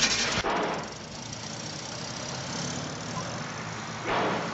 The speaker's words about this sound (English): Gets in and starts the car.